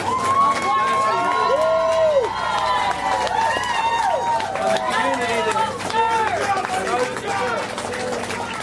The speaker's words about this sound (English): Outside of the courthouse, the cheers of the citizens of Luzerne County drowned out the prosecution's press conference.